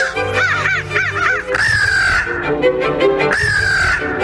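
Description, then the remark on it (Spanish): Crows caw loudly at dusk, a quick run of rising-and-falling calls followed by two longer, drawn-out harsh cries, with no talking. “Por ejemplo, que al anochecer el aleteo y el graznido de los cuervos lograba enloquecer a los viajeros.”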